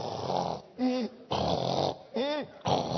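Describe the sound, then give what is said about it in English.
A person mimics a husband or wife snoring out loud: three cycles of rough, rasping inhales, each followed by a short voiced, wavering exhale, in a steady rhythm. “The person, your husband or wife, snores.”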